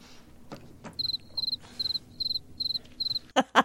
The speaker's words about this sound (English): They whipped out the cricket sound for that. Man, they do that. And I mean, those moments are so uncomfortable.